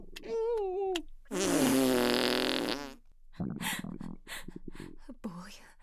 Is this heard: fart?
yes